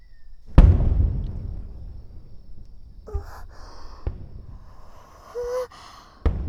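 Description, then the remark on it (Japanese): Fireworks bursting outdoors: one loud boom near the start with a long rumbling tail, followed by a few softer, scattered pops and a faint whistle, with no one talking. “花火だ。あ、すごい、綺麗。”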